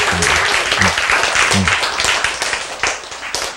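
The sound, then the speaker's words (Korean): A crowd claps steadily for several seconds, a dense, crackling wash of many hands with no single beat standing out, fairly loud throughout with a few brief low murmurs underneath. “그래서 여러분이 이렇게 박수를 치고 있으면”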